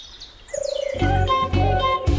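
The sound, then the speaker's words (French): Birds call outdoors in spring beside the Morge river in Saint-Myon, starting with faint, high descending whistles, then a short pulsing note and louder, buzzy repeated calls. No one speaks. “on peut très bien profiter du chant des oiseaux sans en connaître aucun”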